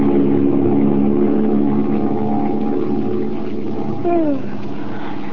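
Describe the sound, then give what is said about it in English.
Steady, loud drone of the engines of a silver-winged passenger plane flying westward high above the clouds, a continuous low hum with a faint rising-falling tone near the end and no voices. “We find Margot and Lamont flying westward, high above the clouds, in a silver-winged passenger plane.”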